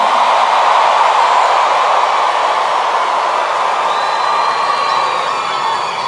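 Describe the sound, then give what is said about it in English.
A large crowd at the 2022 International Youth Alive Convention claps for themselves and shouts nonstop, a dense, loud wall of applause with cheers and whoops mixed in, holding steady for several seconds without any clear speech. “Clap for yourself right now.”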